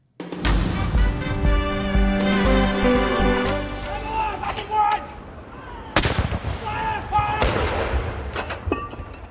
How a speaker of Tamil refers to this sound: மரியாதையை வெளிப்படுத்தும் வகையில் ராணுவ பீரங்கிகள் முழக்கம் செய்தன.